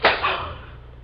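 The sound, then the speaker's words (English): A sharp slap of skin on skin as a mother slaps her grown son across the face, followed by a softer second smack and a brief fading tail, with no voices. “Don't do that to me, Ma. Don't slap me. Bad boys get slapped.”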